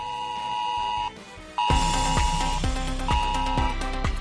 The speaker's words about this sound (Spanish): Era el mensaje que se enviaba a las 20:18 horas mediante ese sistema ya conocido en anteriores ocasiones, S-Alert, de la Red de Alerta Nacional.